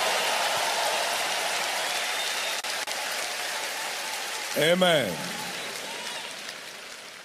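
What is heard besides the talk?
audience clapping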